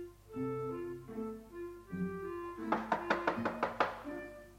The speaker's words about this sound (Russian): Одну минуточку, там стучат.